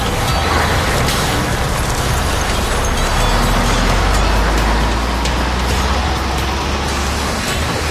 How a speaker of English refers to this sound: My window thawed out. I can see. You know, a guy might be able to let this thing run. But if I keep this heat blowing right on my window here, it might be just enough. I'm going to let her crank and let her sit right here.